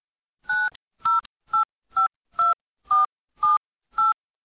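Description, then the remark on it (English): Eight short touch-tone beeps from a phone keypad as a password is tapped in backwards, evenly paced at roughly half-second intervals, each a clean dual-pitched tone, clear with silence between presses. “Then she and Robert tapped in the password backwards.”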